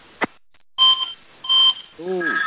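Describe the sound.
A sharp click, then two steady electronic phone tones, each lasting about a quarter second, followed by a garbled, warbling voice-like sound over a thin telephone line.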